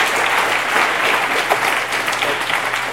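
A crowd at an EFF event applauds steadily, many hands clapping in a dense, continuous wash of noise that holds a fairly even loudness throughout, with no voices standing out.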